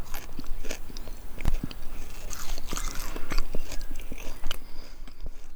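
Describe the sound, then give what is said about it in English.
Crisp crunching and chewing of hawthorn leaves eaten off a hawthorn tree by a person at Shannon Pot, with irregular sharp bites and rustly mouth sounds continuing steadily for several seconds, no talking. “We kicked off our 40 days and 40 nights by crunching on hawthorn leaves at Shannon Pot.”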